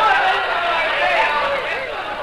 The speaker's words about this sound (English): It worked. The crowd rushed out. We were alone.